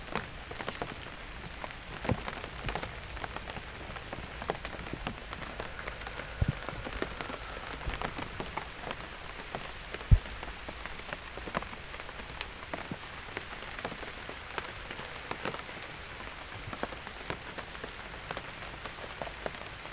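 heavy rain falling

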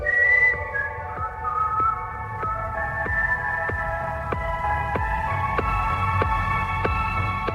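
whistling tune

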